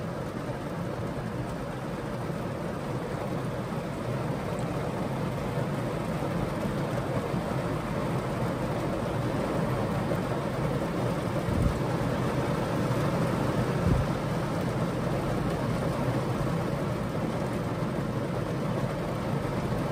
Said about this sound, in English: Whoa, I saw the lightning, boys. Yep, it's sure as hell raining out here, boys.